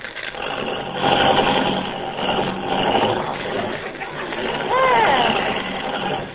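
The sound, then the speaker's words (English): A car engine turns over and keeps running with a steady, rough rumble, rising briefly near the end while a voice comes through faintly over the noise. “You know, this car doesn't work very well. Start it again.”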